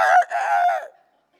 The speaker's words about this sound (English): the rooster's going to crow 3 times. Or crow before you deny me three times, right?